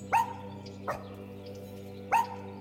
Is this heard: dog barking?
yes